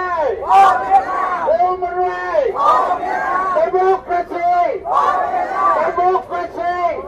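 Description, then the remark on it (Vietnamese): A crowd of protesters chants protest slogans loudly in unison during an hour-long meeting at the White House, demanding human rights, freedom and democracy; the shouted phrases rise and fall in a steady repeating rhythm roughly every two seconds, with overlapping voices throughout. “Những tiếng hô phản đối của đoàn biểu tình liên tục không ngừng trong suốt buổi họp kéo dài hơn một giờ đồng hồ trong Tòa Bạch Ốc.”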